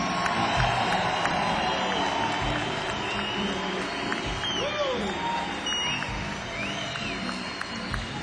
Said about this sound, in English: Yes, yes. You're a wonderful audience. Give yourself a great round of applause, y'all.